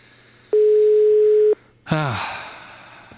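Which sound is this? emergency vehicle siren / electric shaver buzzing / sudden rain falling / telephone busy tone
telephone busy tone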